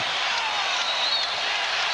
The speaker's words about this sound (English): Now, this is not the end call, but let's hear as Allen Iverson is taken out of the game and the Wells Fargo Center crowd goes wild.